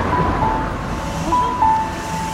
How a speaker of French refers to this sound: Il y a un camion de chantier.